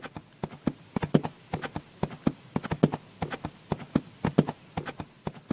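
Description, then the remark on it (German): A ridden horse's hooves clip-clop in a steady, slightly uneven rhythm along a path to a holy mountain, sharp knocking steps that repeat throughout with no voices. “Was für eine Glückseligkeit, diesen Moment auf dem Rücken deines Pferdes genießen zu können.”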